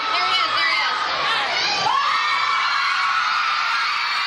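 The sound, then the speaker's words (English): A large crowd screams and cheers continuously at high pitch as a celebrity comes out, loud, with excited shrieks and whoops blending into a dense roar that never lets up. “this is the crowd right as … comes out”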